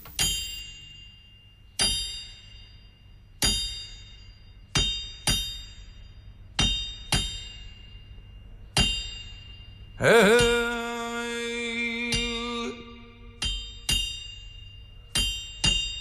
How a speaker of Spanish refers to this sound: Vamos a escuchar un martinete lleno de aridez y desde la puerta de la cárcel.